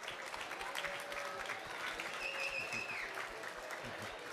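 An audience claps steadily, a dense, continuous wash of applause lasting several seconds at an even level, with a faint high-pitched whistle or tone sliding through the middle.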